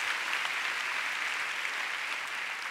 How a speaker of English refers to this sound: Can we give our Heavenly Father a big clap this morning? Hallelujah. Oh, go ahead and give Him praise.